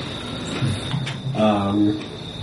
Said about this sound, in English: Okay, so you find yourself riding the subway. You're ready for work. You're dressed for work.